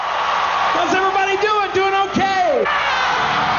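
A huge concert crowd roars with delight, a dense, sustained wall of cheering with a few loud whoops and shouts rising above it throughout.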